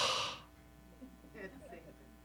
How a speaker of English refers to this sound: it's like breathing in and breathing out. The name of God, Yahweh, is made up of letters in the Hebrew alphabet, which actually are the same sounds as breathing, like breathing out and breathing in.